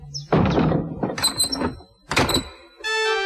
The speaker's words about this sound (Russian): Эмиль плакал, только пока папа не запер за собой дверь сарая.